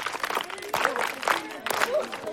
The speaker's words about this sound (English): Very good. Clap for your friend.